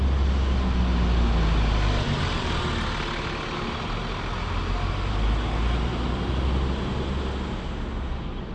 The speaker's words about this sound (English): Ooh, mind the 12A bus.